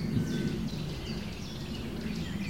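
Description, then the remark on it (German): A nuthatch repeats short, sharp chip notes loudly in a steady series, standing out against a constant low rumble of background noise. No one speaks. “Jetzt hören wir gerade den Kleiber sehr laut mit seinem chip chip chip chip chip chip chip chip”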